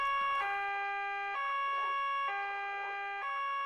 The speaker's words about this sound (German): Weshalb muss er bloß immer die Sirene einschalten, wenn er uns verlässt?